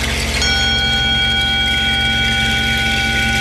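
Tibetan bells ring out with a bright struck onset, then layered high metallic tones hang and shimmer in a long, steady sustain over a soft, rhythmic low pulse.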